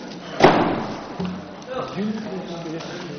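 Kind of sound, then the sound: household object, doors being closed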